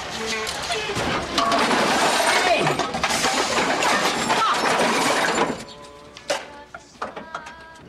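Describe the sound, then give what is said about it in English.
A lorry runs into a car while a man works under its bonnet, setting off a loud, sustained crash of metal tools spilling from his tipping toolbox, clattering for several seconds before trailing into a few scattered clinks. “Something hits the car, causing his toolbox to tip over.”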